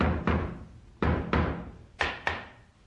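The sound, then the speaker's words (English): Someone knocking on a wooden door in three quick pairs of solid raps, each double knock followed by a short pause, fairly loud with a brief resonant decay, no voices. “Hey, that's not an echo, you cop. It's someone at the door.”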